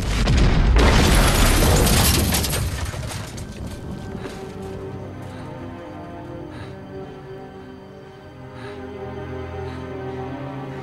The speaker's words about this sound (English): It is the scene of the explosion he has previsioned. He watches as the dreadful events play themselves out once more in his imagination.